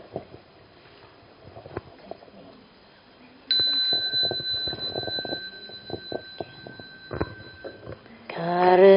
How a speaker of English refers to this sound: I ring the bell and we'll start.